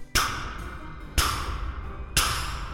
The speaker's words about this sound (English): And just then I heard a knock at the front door.